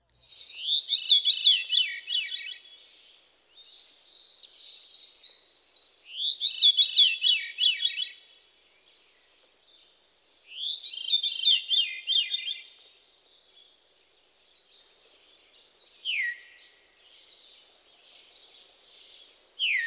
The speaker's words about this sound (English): Now let's get back to normal speed and listen to the Veery's call note, a vocalization that seems to repeat the bird's name. Veer, veer. Here again is the mysterious song in the call notes of the Veery.